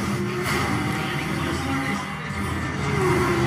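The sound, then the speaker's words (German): Two racing car engines in the Forza 5 video game trailer roar steadily and loudly in a dense, continuous drone, with one engine's pitch climbing as it accelerates near the end. “Zwei Autos in einem Rennen.”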